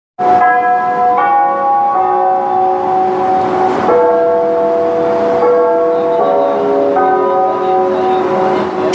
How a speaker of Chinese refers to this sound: 12点整，位于北京中轴线上的北京火车站上空，准时响起了人们耳熟能详的东方红乐曲和那清脆的钟声。